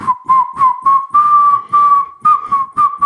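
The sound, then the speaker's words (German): Someone whistles a simple children's melody, clear and fairly loud, starting with short separate notes before longer held ones, with no talking. “Aber kannst du eine Melodie pfeifen?”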